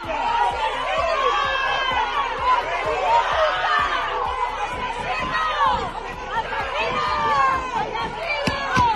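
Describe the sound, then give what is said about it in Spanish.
A group of neighbours shout and jeer at once outside the courts in Ejea, yelling "asesino" at a man leaving, loud, voices overlapping in a steady angry clamor with sharp percussive bangs scattered throughout. “Así le increpaban a su salida de los juzgados de Ejea un grupo de vecinos al grito de asesino.”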